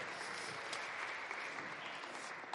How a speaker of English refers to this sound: Let's give our scientists a massive round of applause.